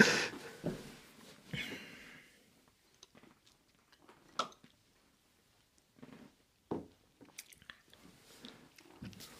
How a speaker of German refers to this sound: Guck mal, er steht jetzt auf. Er steht jetzt auf und muss husten.